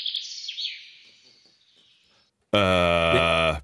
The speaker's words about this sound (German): Das ist der Buchfink. Natürlich. Ja, 10 Minuten vor Sonnenaufgang beginnt er sein Vogelkonzert.